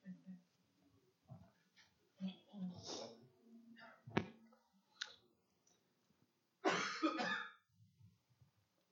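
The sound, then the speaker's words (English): A person coughs several times in short, harsh bursts, with a sharp click and some throat clearing between, amid faint murmured voice sounds. “message will be twice as long because of the old times I've got to stop the cough.”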